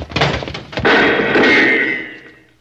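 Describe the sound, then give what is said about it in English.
A heavy wooden door is forced open with a sharp, loud crash and thud as people go through it fast, followed by a rattling, ringing clatter that slowly fades out. “When I give the word, we'll go through this door fast.”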